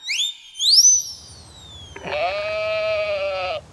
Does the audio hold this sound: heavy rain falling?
no